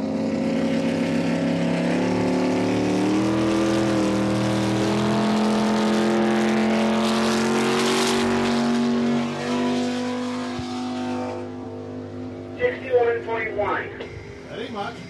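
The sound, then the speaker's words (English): The engine of Foolish Pleasure, a 2,300-pound racing lobster boat, roars loudly and steadily during a speed run of 61.1 miles an hour, its droning pitch holding for most of the run before easing off into choppier, uneven noises near the end. “Alley's first run falls short at 61.1 miles an hour.”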